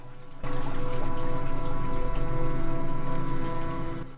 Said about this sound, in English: Water runs through the cavern.